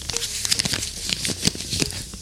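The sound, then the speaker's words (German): Paper crinkles and rustles as a Jehovah's Witnesses flyer is handled, with a steady run of irregular crackly bursts and sharper snaps over about two seconds, moderately loud and without any voices. “Das ist ein Flyer von den Zeugen Jehovas.”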